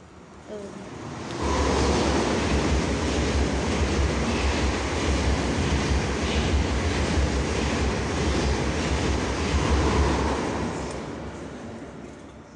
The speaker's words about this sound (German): Ich wurde vom Zug überfahren. Kappa. Aber der fährt über mir. Ich bin gerade auch in der Unterführung.